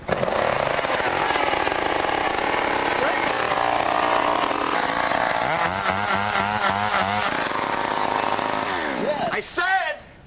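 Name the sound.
chainsaw engine running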